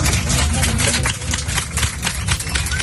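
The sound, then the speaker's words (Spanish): Passengers applaud inside a plane as it lands in Cancún, Mexico, while Mexican police board to take away a detained man: a dense, steady patter of many hands clapping at once over a low, continuous engine rumble, with no speech. “Bueno, esto que escuchas son los aplausos de los pasajeros cuando el avión aterriza en Cancún y la Policía de México entra en el avión y se lleva a este hombre detenido.”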